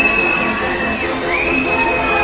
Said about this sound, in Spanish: Los aplausos que escuchan son para la ministra de Educación, Pilar del Castillo, que hace su entrada en este momento en el Teatro Campo Amor.